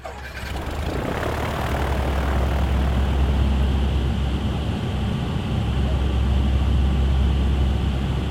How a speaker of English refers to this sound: The only thing you can see inside a C-130 at night like that is this, the red jump light above the jump door and down on the floor, and there's this hum of the plane.